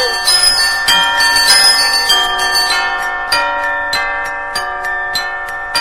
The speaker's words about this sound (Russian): Сели король с королевной в коляску и поехали в собор. Там уж давно к обедне звонят, и народу привалило, видимо-невидимо.